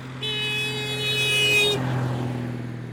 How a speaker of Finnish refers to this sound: He lähtivät autollaan huristelemaan reissuun.